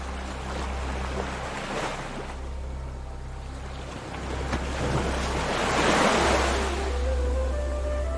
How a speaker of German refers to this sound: Du gehst ein paar Meter und spürst, wie eine kleine Welle deine Füße umspült.